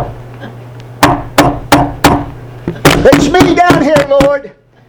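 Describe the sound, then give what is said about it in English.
Four evenly spaced knocks on a hard surface ring out loud and close, followed by more quick raps mixed with a voice that briefly takes over. “See, sometimes when you knock, he can hear.”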